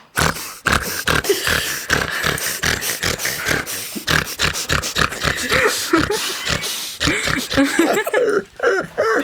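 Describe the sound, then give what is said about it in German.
A voice imitates pig-like grunting mixed into laughter: a rapid, rhythmic string of snorty grunts and breathy bursts, loud, running continuously for several seconds. “Ich finde es auch sehr lustig, wenn irgendwer beim Lachen irgendwie so grunzt.”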